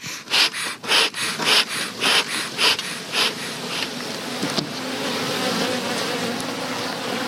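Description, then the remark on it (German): A dense, steady hum of many honeybees in a beehive being opened, preceded by a quick series of rhythmic hissing puffs as smoke is blown into the hive from a smoker, giving way to the continuous droning buzz. “öffnet behutsam einen Bienenstock, in der Hand eine Art Spritzkanne, die raucht.”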